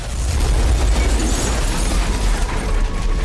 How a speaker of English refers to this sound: She turns to leave with Reynard. His car explodes in a fireball.